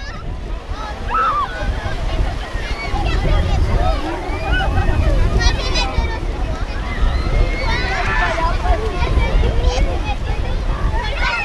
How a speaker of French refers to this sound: Les vagues, le vent, le rire des enfants, pas de doute, nous sommes bien à la plage. Une plage des Becs à Saint-Hilaire-de-Riez en Vendée qui était réservée mercredi rien que pour les enfants.